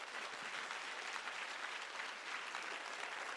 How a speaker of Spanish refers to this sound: Vamos, si tú vas a aplaudir al Señor.